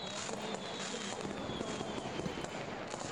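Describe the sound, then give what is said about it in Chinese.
A steady barrage of fireworks crackles and pops, dense overlapping bursts forming a continuous fizzing roar at a fairly low, even level with no voices. “没关系，但你看他们烟花还没放完，他们都还在看呢，还没散场呢。”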